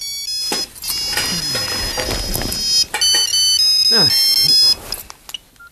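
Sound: mobile phone ringtone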